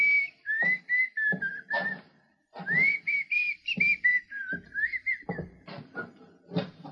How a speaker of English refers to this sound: And Dane whistled a slow tune that seemed to mock their predicament.